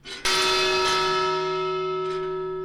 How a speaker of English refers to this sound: This bell sounded whenever a new ship of Chinese immigrants was approaching Angel Island in the early 1900s.